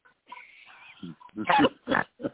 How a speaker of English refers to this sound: Sorry, I'm like snoring.